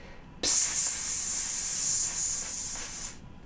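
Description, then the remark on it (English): A steady, sharp hiss of air escaping from a leaking inflatable raft out on the water during a fishing trip, starting abruptly, holding high and even for nearly three seconds, then cutting off. No voices. “And what had happened was the boat had sprung a leak, and it was slowly deflating.”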